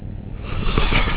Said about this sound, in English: Yawn.